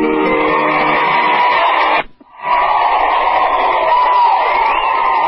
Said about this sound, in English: All right, just listen to that applause.